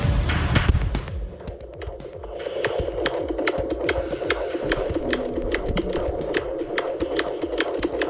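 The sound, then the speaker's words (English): An unborn baby's heartbeat on a monitor: rapid, steady whooshing thumps, roughly two per second, pulsing over a constant low hum and static, with no voices. “Sounds like a heartbeat. It is. It's my baby's heartbeat.”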